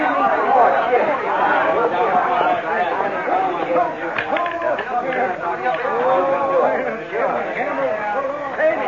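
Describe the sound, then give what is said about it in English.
Dense crowd chatter in a bar with gambling at a dealer's table in Deadwood fills the whole stretch, many overlapping voices blending into a steady, fairly loud murmur with occasional brighter exclamations poking through; no single voice stands out. “Some crowd, huh?”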